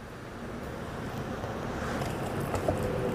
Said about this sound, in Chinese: 好，一颗100公克。加少许的太白粉水，轻轻下锅。我们用水煮的状态，水煮的方式，不要这个不需要炸。